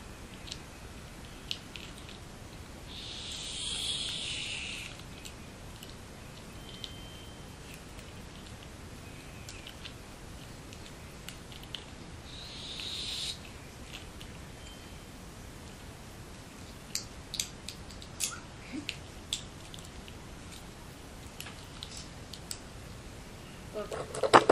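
Rustling and crinkling of soft adhesive tape being handled and cut, with two longer hissing pulls as it's stretched off the roll and scattered small clicks and snips, all over a low steady background.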